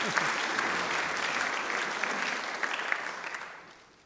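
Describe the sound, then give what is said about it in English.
A church audience applauds steadily, a dense patter of many hands clapping at once, holding fairly even before tapering off toward the end. “Yeah, you can clap, actually. It'd be quite good.”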